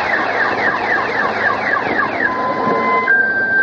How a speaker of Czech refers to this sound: U blatu, na zakrčenom putu, vidimo izvrnute automobile potonule u blato. Iz jednog od njih još se čuje alarm.